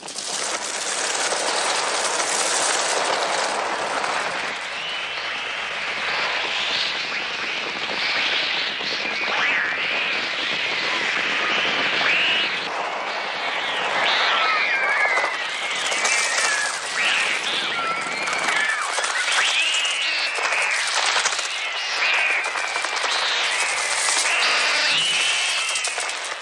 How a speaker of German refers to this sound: Film eben keine andere Filmmusik hat, sondern nur mit künstlichen Vogelstimmen und anderen Geräuscheffekten unterlegt ist und auch Passagen mit Stille die Spannung erhöhen. Wir hören jetzt ein Klangbeispiel, den Angriff der Vögel auf die Schulkinder.